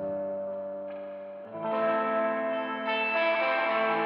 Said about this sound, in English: And then there's a just regular old reverb. Turn the mix way up on that.